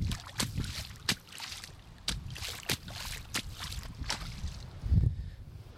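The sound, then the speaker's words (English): Feet wade through floodwater above ankle height on a flooded road towards Mevagissey, each step a sharp splash and slosh in an uneven rhythm, roughly ten strides over a steady low rumble of moving water. “I can try and give you an idea of how deep it is. Have a listen to this.”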